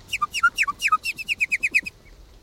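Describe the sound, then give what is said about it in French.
A nightingale sings a quick phrase, starting with its position call: a few sliding whistled notes followed by a fast, even run of about ten bright chirps, clear, with no voices. “Je suis un rossignol, ouais.”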